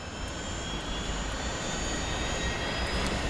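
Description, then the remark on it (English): A helicopter turbine whines over a dense, roaring engine rumble as the whine picks up, with thin high-pitched tones riding on top. The sound is loud, with no voices. “As the whine of the helicopter turbine picks up, Cora finally lifts the headphones off.”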